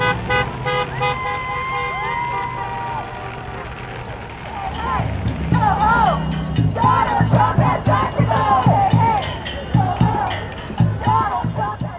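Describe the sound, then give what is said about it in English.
A crowd of more than 1,000 people at a Not My President rally on the Presidents' Day holiday in the downtown Capitol District, protesting President Donald Trump's actions, shouts and chants in loud, ragged bursts, with a steady horn tone and traffic noise early on before the voices swell and dominate. “A Not My President rally on the President's Day holiday yesterday drew a crowd of more than 1,000 people to the downtown Capitol District to protest President Donald Trump's actions in his second term.”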